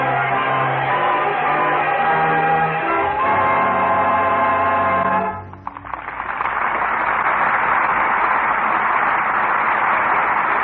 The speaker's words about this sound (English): Up from the cellars of Paris, up from the bare fields of a starving peasantry, the crowd was coming, chanting its hate, screaming for blood. The people of France in all their might, rising in revolution.